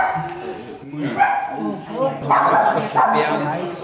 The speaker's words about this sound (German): Im Foyer haben sich mittlerweile die Frauchen und Herrchen mit ihren Hunden versammelt.